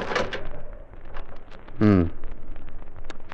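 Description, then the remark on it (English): A house door lock is rattled and tested, with scattered small clicks and knocks over a steady background hiss, and one short creaking groan in the middle. “Was locked all the time. Oh, I knew it was locked.”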